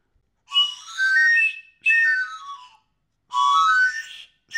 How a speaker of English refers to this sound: Here we have multi-tune whistle, I guess you could call it. Let's try it.